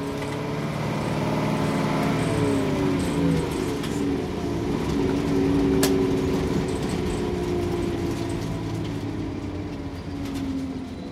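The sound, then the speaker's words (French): A steady, droning bus engine with rumbling low tones and shifting pitch as it changes gear, heard from inside a bus on a long climb crossing the High Atlas mountains, with faint rattles and no voices. “Et même si 10 heures dans un même bus peuvent paraître insurmontables, celui qui traverse le Haut Atlas sait jouer avec le temps.”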